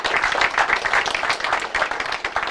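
Steady audience applause, many hands clapping together in a dense, continuous patter that stays fairly loud and even throughout, with no talking over it.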